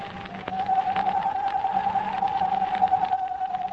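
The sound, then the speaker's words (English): A voice imitating a hoot owl's screech, near a deserted cabin: one long, steady, slightly wavering mid-pitched cry held throughout, over a constant hiss of sighing wind, with no talking. “imitating the screech of a hoot owl.”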